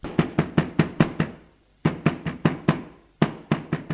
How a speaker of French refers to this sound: L'on tape à la porte.